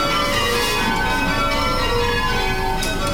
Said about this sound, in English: Loud and proud, the workers here at Taylor's often spend their lunch hour ringing their own bells.